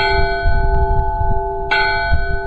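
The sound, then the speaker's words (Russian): A bright church bell with a light, soaring, joyful timbre rings with long, sustained harmonic overtones, struck again partway through, loud over a low rumbling background. “Есть колокол яркий, с таким светлым, летящим, радостным тембром.”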